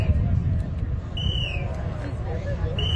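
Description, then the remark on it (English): Whistles direct crews holding the strings of Macy's giant balloons being tested in the parking lot of MetLife Stadium, New Jersey, ahead of the Thanksgiving Day parade: a shrill, steady blast over a low rumble of crowd murmur and outdoor noise, then fainter short chirps and another whistle starting at the end. “Those sounds of whistles could be heard directing crews holding the strings in the parking lot of MetLife Stadium.”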